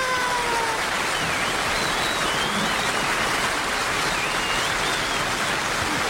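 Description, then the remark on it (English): A TV show audience applauds a guest star at the end of the show in a dense, steady wash of clapping that holds at an even loudness throughout, with faint high whistles rising above it now and then. “But before we go, this is Kermit the Chicken asking for one last round of applause for our guest star, Mr.”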